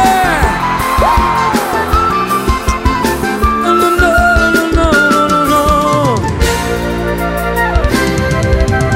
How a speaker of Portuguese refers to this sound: Quem tá feliz, aquele gritão, aê!